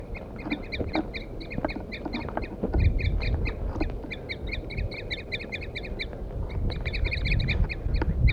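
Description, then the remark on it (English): Wild ducks, mostly males, call over and over in quick, repeated bursts, reacting to a recorded call left playing on a stump; their sharp quacking notes overlap in a busy, continuous chorus with low rumbling noise underneath. “The recording I had left 4-3 on the stump, and I got the wild birds now attacking him. Wild male mostly.”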